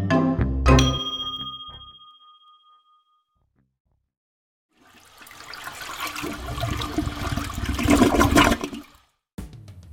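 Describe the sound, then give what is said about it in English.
A bright chime rings out and fades, then after a short silence a toilet flushes loudly with a rushing, gurgling swirl of water that drains away before stopping abruptly. “Yep, two flushes with the courtesy flush.”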